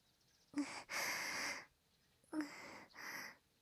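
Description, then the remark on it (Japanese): Two cycles of soft, airy breathing, each a short intake followed by a longer breathy exhale, quiet and unhurried with no speech. “吐息が当たってくすぐったい。”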